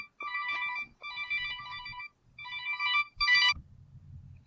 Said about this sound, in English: Wow, and that ringing phone means I have to cut this short.